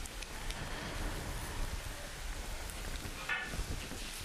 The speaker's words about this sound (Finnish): Ja Elia sanoi Ahabille, nouse, syö ja juo, sillä sateen kohina kuuluu.